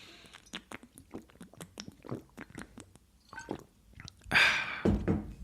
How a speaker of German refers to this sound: Schluck Wasser, bevor es hier weitergeht. Ja?